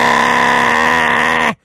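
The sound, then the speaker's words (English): A voice imitates the loud, big exhaust of a 1995 Honda Civic coming down I-85 with a single sustained, buzzing, rasping drone lasting about a second and a half, very loud and steady, then cutting off abruptly. “You mean you've got like a 95 Honda Civic and it's got an exhaust about yes. this big?”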